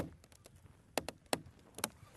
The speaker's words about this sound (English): It's quiet enough that I can hear that real North Country sound, which is the trees kind of cracking and creaking with the cold. It's kind of dramatic, right?